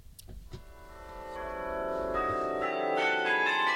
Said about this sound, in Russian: Колокола Карильона в бельгийском городке Мехелен называли «малиновым звоном», потому что город этот на французском языке называется Малин.